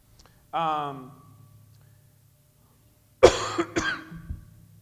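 A short throaty vocal sound, then after a pause a loud burst of two or three harsh coughs in quick succession from a person with a sore throat, over a low steady background hum.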